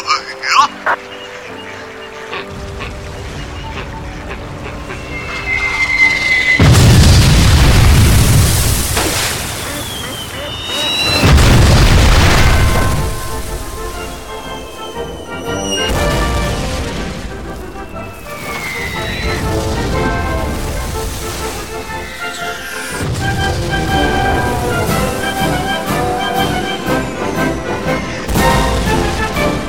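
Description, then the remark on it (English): A rolling artillery barrage fired as immediate fire for effect: several heavy, rumbling blasts land a few seconds apart, loud, each one trailing off into crackling debris and roar before the next hits. “Copy, Delta Victor Bravo. Immediate fire for effect.”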